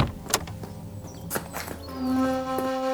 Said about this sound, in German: In diesem Moment öffnete sich die Fahrertür.